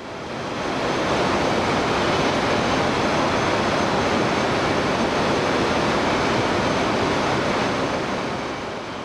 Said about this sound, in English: A turbine more than 150 feet long and weighing more than 750 tons spins at the Callaway nuclear plant near Fulton, Missouri, helping generate electricity for hundreds of thousands of people.